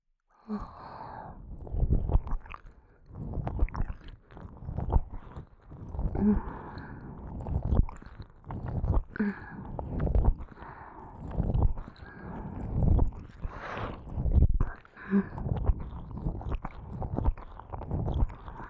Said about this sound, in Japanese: ご主人様のお望み通り、今より速度を上げて耳を舐めてあげます。では行きますよ。